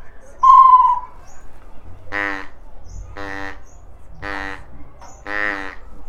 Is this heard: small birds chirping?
yes